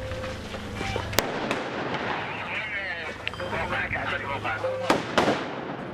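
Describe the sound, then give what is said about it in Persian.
Gunfire is exchanged between Iraqi forces and Islamic State (ISIS) militants hiding in a house in western Mosul, fighting inside the house: several sharp, loud shots crack out at irregular intervals, some in quick pairs, over a steady rumbling background with faint voices murmuring underneath. “تبادل آتش در داخل خانه.”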